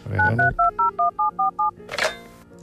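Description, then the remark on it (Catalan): A rapid sequence of about eight touch-tone telephone dialing beeps, each short and evenly spaced, followed by a brief burst of noise like a line connecting, as a live Catalunya Ràdio morning show calls the hospital where Morante de la Puebla is admitted. “Doncs mira, anem a trucar a l'hospital on està ingressat, a veure si podem parlar amb ell, et sembla?”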